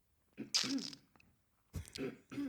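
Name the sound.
throat clearing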